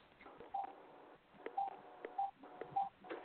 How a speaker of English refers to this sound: But it sounds like it's my phone. Hold on. Maybe it's this phone.